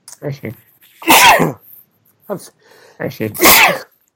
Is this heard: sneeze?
yes